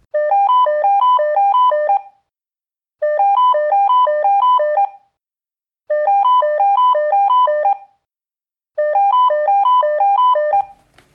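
A mobile phone rings with a bright, melodic electronic ringtone, repeating four times in two-second bursts separated by short pauses, loud, ending with a faint click.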